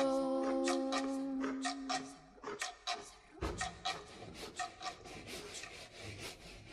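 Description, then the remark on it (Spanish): A handsaw cuts through wood in quick, steady back-and-forth strokes, rasping, following a brief high squeaky tone at the start. No one speaks. “Ahí está, con mi martillo, con mi serrucho.”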